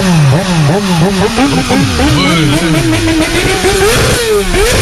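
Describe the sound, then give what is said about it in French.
A motorcycle engine revs loudly, its pitch climbing and dropping in repeated surges over a steady throaty roar, with no talking. “C'est un mec qui fait de la moto.”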